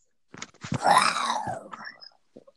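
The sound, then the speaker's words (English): A person imitates an animal roar with a single raspy, growling cry that swells and trails off over about two seconds, followed by a couple of faint clicks. “One of you can roar.”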